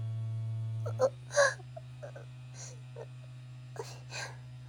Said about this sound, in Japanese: こんな大きいバイブの音お母さんに聞こえちゃう。